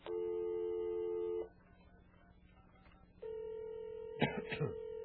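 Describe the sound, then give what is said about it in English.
A telephone line plays a steady tone that cuts off, then after a brief hiss a second tone comes in, interrupted near the end by a quick burst of dialing beeps, as someone places a phone call. “Now we're going to make a little phone call and see about this 20 years younger stuff, okay?”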